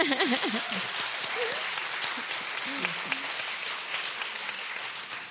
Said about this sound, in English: Round of applause.